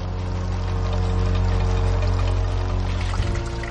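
Water pours and rushes steadily from an Inca canal, fed by a nearby natural spring and built with a 3-degree slope, into fountains, a loud, continuous flow with a low rumble underneath and no voices.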